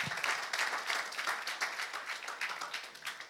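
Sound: audience clapping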